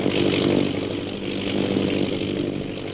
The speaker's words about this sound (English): Several hours later, the sound of an airplane circling overhead brings Peter Hawkins and Shanghai Lil to the window of their cell.